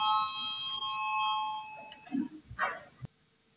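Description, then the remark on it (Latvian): A parliamentary voting bell rings with a steady, bright electronic tone for about two seconds, calling a vote on an amendment proposal, then fades, leaving a few soft thumps and a sharp click in quiet. “Lūdzu, zvanu, balsosim par 13. finanšu ministra Reira priekšlikumu.”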